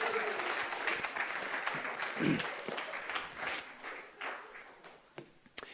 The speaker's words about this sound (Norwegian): Skal vi gi Tommy en skikkelig klapp?